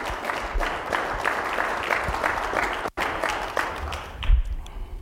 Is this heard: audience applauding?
yes